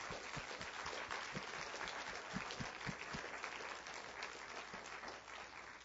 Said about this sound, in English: They both graduated from UW this year as well, so let's give them a hand of applause as well.